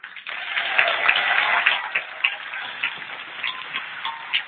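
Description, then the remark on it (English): An audience claps steadily throughout, a dense patter of many hands at a moderate level, slightly muffled and thin as if heard over a narrow phone or radio line, during an amateur radio contact rebroadcast on the IRLP and Echolink systems. “Please give them a huge round of applause.”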